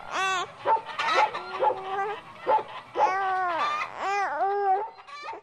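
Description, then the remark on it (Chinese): Beside a family's house, a dog gives short barks, yips and whiny cries while small children and babies babble and squeal over it, the noise nearly continuous for a few seconds. “同时呢，家旁边的鸡啊、狗啊、猪啊等等这些牲畜，还有小娃娃们、婴儿们，都在那地儿叫叫嚷嚷、处处紧紧呢。”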